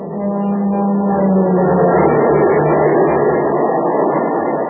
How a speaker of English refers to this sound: Man, that train is really traveling now because it's supercharged with super fuel.